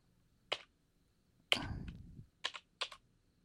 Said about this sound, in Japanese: 打ち込むだけじゃなく、キーボードを爪でなぞってみたり、